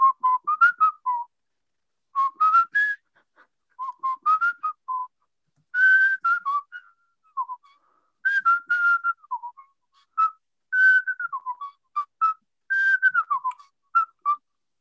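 A person whistles a tune alone, clear, with short melodic phrases rising and falling in pitch, separated by brief pauses throughout.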